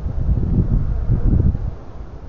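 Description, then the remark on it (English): Steady outdoor wind rumbles low under gray skies, swelling in uneven gusts with a faint rustle, then a short sharp knock right at the end. No one speaks. “Skies are gray and it's a little windy, but you know, that's just regular weather.”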